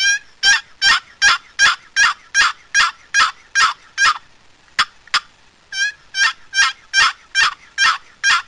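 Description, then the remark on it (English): A turkey box call, turned over with the paddle up and the handle in the air and drawn across, makes a long series of raspy, evenly spaced, lengthened gobbler yelps, loud, with a brief break of a couple of sharp clicks midway before the yelping resumes. “Put the paddle up, handle up in the air and take it across. Here's a gobbler yelp. Just lengthen the yelp.”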